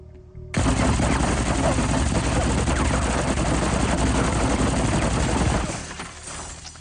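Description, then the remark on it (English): A long, dense burst of machine gun fire with sharp squib impact hits mixed in, staged for a TV show scene. It is loud and sustained for about five seconds before cutting off abruptly into a quieter tail. “And that only took several hours to squib up. I never got to shoot a gun like that.”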